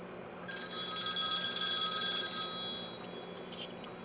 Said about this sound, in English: Ooh, I like that ringtone. Old telephone. Oh, yeah, I like the classic tones myself.